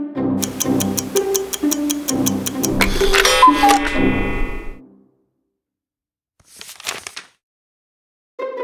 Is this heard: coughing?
no